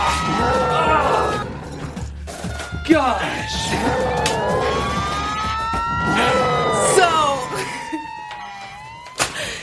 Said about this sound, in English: Alarms.